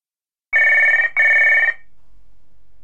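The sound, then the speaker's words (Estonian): A telephone rings twice, two bright, buzzing bursts of about half a second each separated by a brief gap, followed by quiet. No one speaks. “Ma helistan sulle kohe tagasi, ma ei saa praegu rääkida.”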